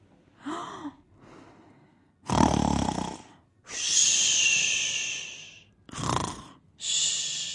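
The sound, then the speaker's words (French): A sleeping bear in a tipi deep in the woods snores loudly and rhythmically: rough, low rumbling inhales alternating with long hissing, whistly exhales, repeating about three times with no talking. “Soudain, épuisé, l'ours s'est endormi.”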